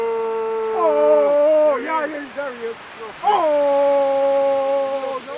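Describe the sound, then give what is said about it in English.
Several Unangan hunters call out to a sea lion they have spotted, to draw it in, in long, sustained howling tones, pitches bending and dipping as the voices overlap, loud throughout with a brief break in the middle and no words spoken. “The hunters spot a sea lion and they start to call to it.”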